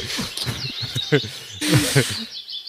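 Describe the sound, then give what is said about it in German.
Birds chirp outdoors amid a busy wash of high-pitched calls, with a few low, speech-like sounds mixed in, the whole scene steady and moderately loud. “Tut mir leid, aber ich höre nur Vögel.”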